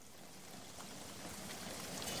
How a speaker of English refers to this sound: Here I am in the rain, but I certainly don't feel much like singing.